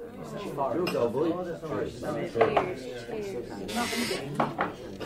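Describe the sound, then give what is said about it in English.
Plates and cutlery clink and clatter in a kitchen as raw ingredients are put onto plates, light scraping and tapping scattered throughout while people talk over the sounds. “Why are you putting raw ingredients straight onto plates?”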